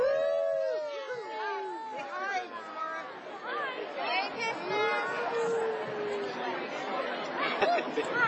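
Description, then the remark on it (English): A dog lets out long, wavering howls that rise and fall, heard clearly over a lively crowd of people chattering and talking all around it at a Christmas parade. “Look at the dog!”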